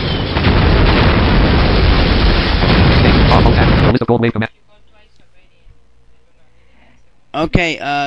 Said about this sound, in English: Alright, so those torpedoes are going to hit the platform pretty soon. Pretty soon. You can barely hear them when they hit the platform.